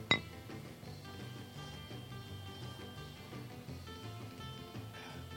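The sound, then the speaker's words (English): A single bright clink of beer glasses of pale ale touching in a toast rings out right at the start, crisp, then fades beneath a steady, softly humming tonal background with no talking. “Well, let's take a swig, shall we? Cheers.”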